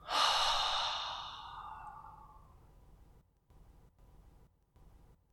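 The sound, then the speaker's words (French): A single long, airy breath pushed out through the mouth after a deep belly inhale during a breathing exercise, fairly loud at first, then gradually fading into near silence with faint background hiss. “Inspire en gonflant le ventre et expire longuement par la bouche.”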